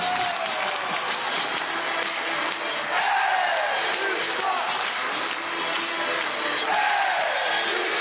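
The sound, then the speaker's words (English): A packed hockey crowd of about 4,000 Charlestown fans on their feet in the war memorial arena roars and screams without letup, individual yells swooping up and down in pitch above a dense, steady wall of voices that swells slightly around the middle and end. “Everybody is just on their feet screaming, kill, kill, kill.”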